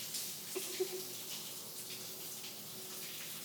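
Shower water rinsing off body soap runs in a steady, hissing spray throughout, fairly soft, with a faint brief knock or two early on and no voices.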